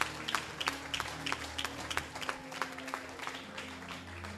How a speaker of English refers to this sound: Clap your two hands for them.